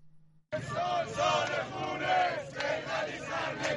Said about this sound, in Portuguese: Este é o ano de sangue, gritam manifestantes em Teherão, enquanto os militares avançam pelas ruas da cidade. O Irão está agora na segunda semana de agitação civil em massa após a morte de Mahsa Amini, de 22 anos.